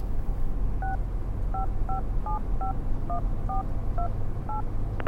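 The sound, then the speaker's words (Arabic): A phone number is dialed on a keypad to call an uncle: about ten short, evenly spaced dual-tone beeps in a steady rhythm, clear over a low background hum, with no one talking. “اللي أقول لك، ليه ما حتكلم عمي؟”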